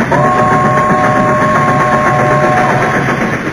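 A loud, continuous roar of a train rushing past and running over all the trogs and leper gnomes, with a steady high squealing tone held for over two seconds before dropping away under the rumble.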